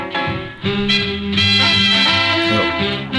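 A short burst of jazz plays on its own, loud and steady, with full sustained chords and bright horn-like notes shifting every half second or so, no voices over it.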